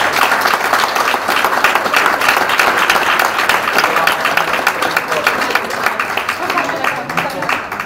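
An audience applauds steadily and loudly for several seconds, a dense wash of many hands clapping at once that holds an even level before easing slightly near the end.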